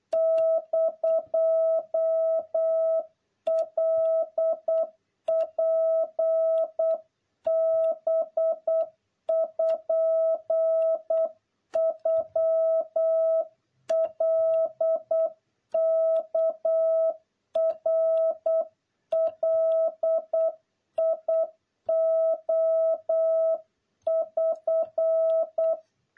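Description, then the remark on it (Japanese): Japanese wabun Morse code practice tones from the 54th practice session, sending Japanese proverbs: a steady, mid-pitched beep keyed on and off in rapid dots and dashes, sent in bursts separated by short pauses, with no voices. “和文の練習54回目です。今日もことわざをやっていきましょう。”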